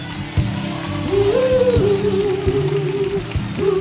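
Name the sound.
audience applause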